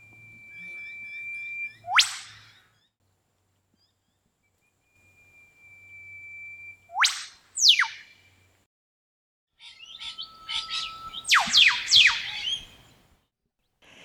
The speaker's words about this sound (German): Das war jetzt der Ruf des Whipbirds, wörtlich übersetzt, also Peitschenvogel, weil so ein Ruf eben so klingt wie so eine Peitsche.